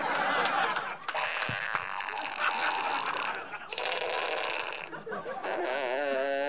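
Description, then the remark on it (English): A sound-effects fart fanfare novelty toy from a prize bag plays a loud, buzzy fart fanfare: a continuous string of brassy, raspy blats that shift in pitch and end in a wobbling, warbling tone. No talking. “It's a sound effects fart fanfare.”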